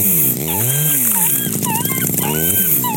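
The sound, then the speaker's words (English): A dog whimpers and whines in rising and falling cries, buried under a loud, harsh chainsaw-like shredding effect that grinds on continuously and distorted, with no talking. “We just fucking shredded up a dog, man.”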